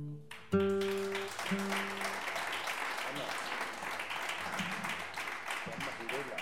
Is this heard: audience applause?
yes